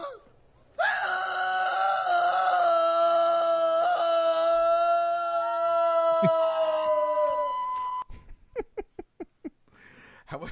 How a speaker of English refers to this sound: but especially the damn howling.